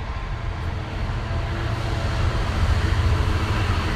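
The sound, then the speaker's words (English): A freight train rumbles past, a steady, heavy low roar that swells slightly louder toward the end, with no voices over it. “It's a like cargo-y type train, freight train.”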